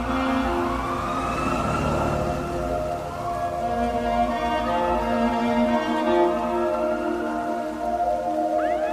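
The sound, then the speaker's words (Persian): An ambulance siren wails continuously with slowly rising and falling tones, layered and fairly loud, over a steady wash of rain. No one speaks. “جنازه رو توی آمبولانس میذارن.”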